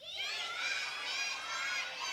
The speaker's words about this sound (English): Well, I'm pretty sure that the kids shouted louder than all of you.